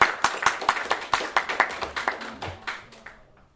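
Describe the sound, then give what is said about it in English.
Brief applause from a small crowd: quick, crisp claps in a steady rhythm, fairly quiet overall, thinning out and fading away by the end, with no voices. “Tonight, so y'all give him a round of applause.”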